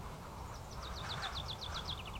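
A bird sings overhead, a quick series of bright, descending chirps repeated about a dozen times in a steady rhythm over a low rumbling background.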